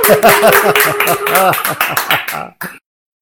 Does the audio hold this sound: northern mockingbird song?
no